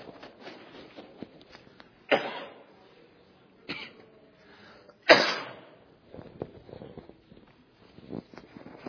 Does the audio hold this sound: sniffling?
yes